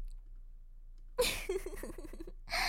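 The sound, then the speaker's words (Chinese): Soft panting of a woman after sexual climax: after a moment of near silence, a run of quick, breathy, faintly voiced exhalations in an uneven rhythm, ending with a longer drawn-out breath. “是不是因为妹妹轻轻的喘息声又撩动哥哥了呢？”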